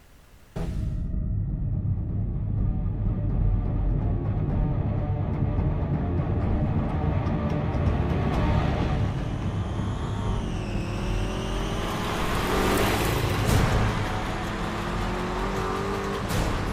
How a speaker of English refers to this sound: What I just witnessed was a sweeping aerial shot over this convoy of cars. And as we get closer, you hear the music coming through. Assumably the source of the music is one of those vehicles.